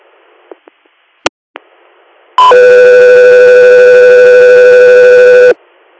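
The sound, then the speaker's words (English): A few sharp clicks and pops, then a loud, steady electronic alert tone with a buzzy, harmonic-rich pitch holds for about three seconds before cutting off abruptly: radio dispatch alert tones. “South for your standby for tones.”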